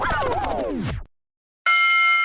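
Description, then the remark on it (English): A small timer alarm, set for 60 seconds, sounds a loud, steady electronic tone with a bright, buzzy edge. Before it, a downward-sliding tone drops away into a short silence. “After 60 seconds, we'll hear a little alarm and we'll see how this plays over a podcast.”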